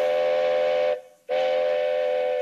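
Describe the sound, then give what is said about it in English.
A loud steam train whistle blows in two long, steady blasts separated by a brief pause, its bright harmonic tone piercing, with no voices. “And just in time for the train.”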